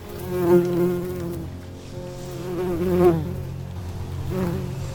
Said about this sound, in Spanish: Las abejas saben encontrar caminos cortos. Las abejas vuelan de flor en flor buscando néctar y tratan de recorrer el camino más corto posible.